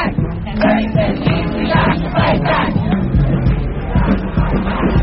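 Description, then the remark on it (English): A large protest crowd filling the north end of Union Square Park roars steadily, many voices blending into a dense babble punctuated by shouts and yells, holding a constant, loud level from start to finish. “We're at the north end of Union Square Park, and it's filled, and it's early.”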